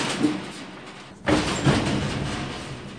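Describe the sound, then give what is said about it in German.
A heavy mobile archive shelving unit is rolled open along its track in the treasure room of the castle archive at Bielstein in Iserlohn, a broad rumbling slide with a sudden onset continuing as a steady grinding roll, loud, with no talking. “Ein Rollregal, dahinter verbergen sich Schubladen, Kistchen und Kästchen und perfekt sortiertes.”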